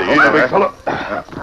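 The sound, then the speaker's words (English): A small dog gives a few high, rising yelps and whimpers, followed by softer muffled whining and shuffling, all within a brief moment. “I'll carry the dog in. Come here, little fella.”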